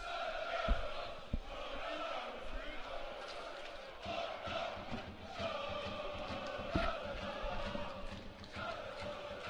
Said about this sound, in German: Und es ist laut aus dem Gästeblock.